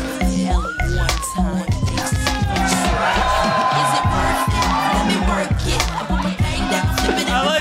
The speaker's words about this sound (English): A cheer, though. Yeah. You guys were correct. I didn't know if booing or cheering would be funny, and we got a little bit of both.